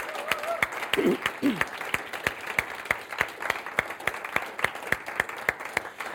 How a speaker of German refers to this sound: Und einfach einmal einen ganz kräftigen Applaus an das Putzteam.